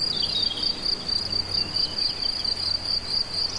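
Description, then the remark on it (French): A dense chorus of many crickets chirps continuously, a steady high-pitched trilling that fills the air with no pauses, moderately loud over a soft outdoor background. “Beaucoup de grillons, d'insectes.”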